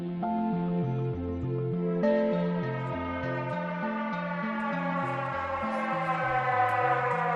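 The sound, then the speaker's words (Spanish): A flood warning siren in Venice, alerting residents to high water, wails steadily, stepping back and forth between low and higher tones in a repeating pattern. It is loud and continuous throughout, with no voices. “Este sonido, el de la sirena con la que los venecianos son avisados de ese agua alta, ha dado paso después al silencio, a la desolación, a la tristeza.”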